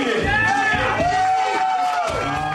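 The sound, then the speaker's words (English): A crowd of onlookers cheers and shouts at an eating contest while about a dozen contestants at a long table eat trays of chicken wing meat, a loud, continuous din of overlapping voices with some sustained yells rising above the mass for the whole stretch. “For 12 minutes, the dozen or so contestants line a long table and gorge while onlookers cheer.”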